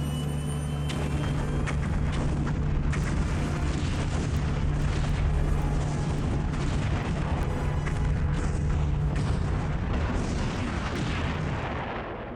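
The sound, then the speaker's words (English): Ion cannons on the glowing underside of a ship lifting off fire amid a booming explosion: a loud, sustained roar with a deep droning hum and scattered crackling blasts, continuous for several seconds before tapering slightly at the end. “The bottom of the ship is glowing. What does that mean? Those are the ion cannons.”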